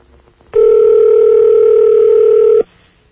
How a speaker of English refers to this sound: Oh, good. His line is ringing.